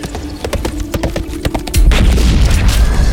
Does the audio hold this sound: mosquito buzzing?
no